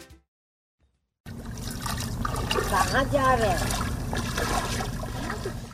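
After a moment of silence, river water sloshes and trickles steadily as a man wades into the river in the late afternoon carrying an earthenware pot, at Harishchandra Ghat, with faint warbling tones in the background.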